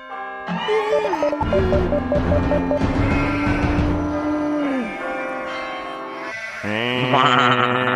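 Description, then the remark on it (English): A sheep-like bleat sounds within a loud, busy music track with chiming, bell-like tones; the animal cry is mixed into the music rather than heard alone, and nobody speaks. “It's a sheep, I think.”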